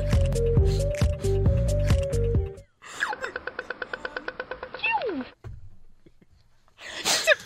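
A brief, loud sneeze bursts out near the end, following a stretch of electronic tones and a fast run of chirpy, squeaky pulses.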